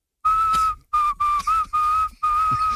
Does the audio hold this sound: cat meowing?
no